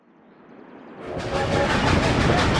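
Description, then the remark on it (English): A wood-fired service engine's rumble swells from a faint hiss into a loud, steady roar as it begins a slow descent down a snowy mountainside, gray wood smoke curling upward, with a faint rhythmic churning running through it. No voices. “On the boardwalk out front of his office, Harris Sweet watched the service engine begin its slow descent down the mountainside, gray wood smoke curling upward in the snowy air.”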